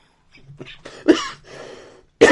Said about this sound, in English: No one's safe from my coughing up a lung.